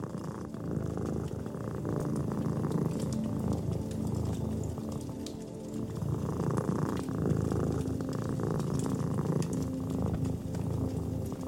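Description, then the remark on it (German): A cat purrs steadily, a continuous low rumbling drone that holds even for the whole stretch with no voices over it. “Die Wärme des Feuers, das angenehme Licht, die Weichheit der Decke und dein eigenes Schnurren verschmelzen zu einer Einheit.”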